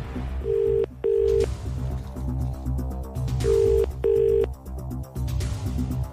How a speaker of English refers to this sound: Do you want me to make a phone call? That'd be handy, yeah. I can do that. And it's to the phones we go. It's ringing.